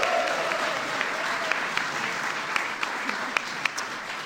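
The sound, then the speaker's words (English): A crowd applauds Tobias Wolf steadily for several seconds, a dense wash of clapping from a large audience with a few sharper individual claps popping out, fairly loud and sustained without talk. “Please give Tobias a big round of applause.”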